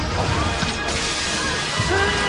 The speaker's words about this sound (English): Was that breaking glass? Yes. Yes! What happens is Michael Madsen smashes the window and the sun melts Meatloaf, so he's a vampire.